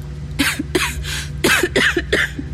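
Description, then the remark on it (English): A run of about six harsh coughs in quick succession from a person lying in water in a cave, each burst echoing back from close rock walls, over a low steady rumble. “Even a little whisper made me start coughing. My coughs echoed back at me from far too close.”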